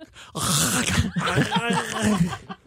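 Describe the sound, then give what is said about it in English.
A loud snort-like snore from a person in the middle of a sentence bursts out abruptly, followed by a couple of seconds of rough, voiced groaning vocal noise before trailing off. “I snored in the middle of that sentence.”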